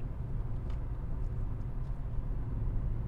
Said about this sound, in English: So, yeah, we have some heavy traffic here, but we're all doing at least 100 kilometers an hour, including the lorries.